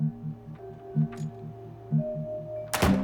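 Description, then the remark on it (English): A door with a green flashing triangular light above it opens near the end with a short, loud whooshing thud as a man in a scramble suit enters, following a steady, rhythmically pulsing low hum that runs throughout. No one speaks. “He enters a door with a green flashing triangular light above it.”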